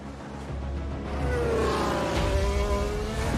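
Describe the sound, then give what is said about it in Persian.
Formula 1 race cars roar past loudly, their high-pitched engines whining and shifting in pitch as they sweep by over a steady mechanical rumble, as Max Verstappen, with DRS activated, easily overtakes Pierre Gasly's AlphaTauri. “ورشتپن میاد و به راحتی از پیر گسلی آلفا تاری رد میشه.”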